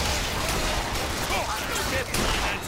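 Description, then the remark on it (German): Dense, steady first-person shooter video game gunfire crackles throughout, with rapid shots layered over a loud, busy battle din and indistinct voices mixed into the action. “Nur ein ganz kleiner Einblick in den Ego-Shooter Bioshock Infinite”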